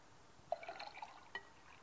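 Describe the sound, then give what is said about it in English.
A brief, quiet trickle and splash of clean water being poured into a glass jar of dirty water, lasting about a second, with small bubbly plinks and no talking. “I've got two jars of water. One is clean and one is dirty. And I'm going to pour which one first?”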